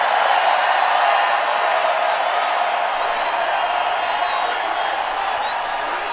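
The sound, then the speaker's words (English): A large crowd cheering at a rally in Dallas, with chants of "USA" and "bring them home": a dense, steady roar of many voices holding at an even, loud level for about six seconds with no single voice standing out. “And listen to the cheers at that rally in Dallas.”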